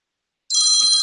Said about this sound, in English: My phone will ring in a second.